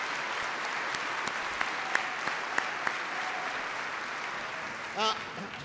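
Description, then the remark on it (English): A crowd gives a big round of applause for rescue workers, in a steady, dense wash of clapping that holds for several seconds, with a few sharper claps poking through and a brief rising whistle or whoop near the end. “I want everybody to give them a big round of applause.”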